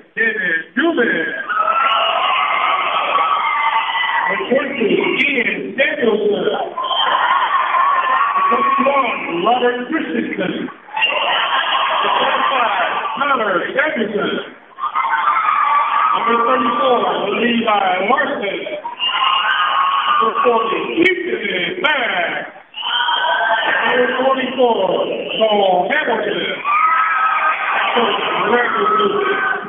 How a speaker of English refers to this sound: All right, now we're getting ready to introduce the King Cove T-Jacks. There's a crowd for King Cove. You can see a lot of people showing up for this game.